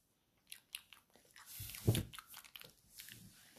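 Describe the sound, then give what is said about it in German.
A crisp bite into something crunchy, followed by a few seconds of wet, irregular chewing and crunching, with no one speaking, as a person eats a food picked without looking in a tasting game. “In den Mund nehmen. Aber nein, nicht gucken. Und essen. Reinbeißen.”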